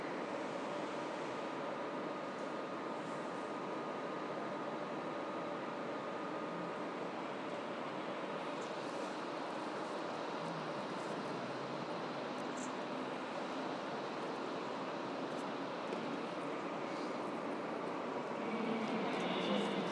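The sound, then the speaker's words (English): A steady, broad rumbling roar of an approaching train fills the scene, constant throughout and swelling slightly louder near the end, with no voices. “Maybe we have a train there. Sounds like it, certainly.”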